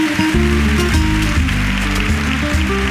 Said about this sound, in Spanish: los aplausos más largos de este día, sin duda alguna, a Adamuz y a los servidores públicos que tuvieron que trabajar en aquellas largas y duras jornadas, y a los trabajadores de las unidades de cuidados paliativos pediátricos.